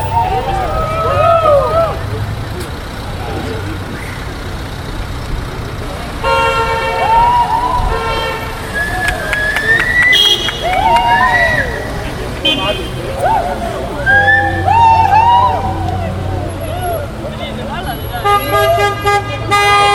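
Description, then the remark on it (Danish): Car horns honk repeatedly in overlapping bursts over a steady rumble of idling engines in a traffic jam beside protesters, with a murmur of crowd voices in the background, like a jammed street full of traffic. “Jamen, de sagde til os, at vi skulle gå, fordi det var vores skyld, at der var trafikprop.”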